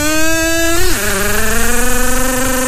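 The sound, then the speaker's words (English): A loud, buzzy kazoo mimics a racing car engine, holding a steady whine, then dropping sharply in pitch like a gear shift before droning on with a fluttering, pulsing buzz. “Or you just want to hear a car? A car, of course.”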